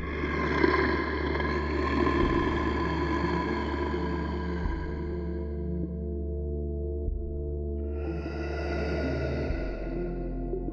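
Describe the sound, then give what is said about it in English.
A long, drawn-out wolf howl sounds over a deep rumble. It fades, then a second howl rises for a few seconds. The tones are sustained, harmonic and loud, with no voices. “Cracking the final vertebrae into place, it howls into the quiet night.”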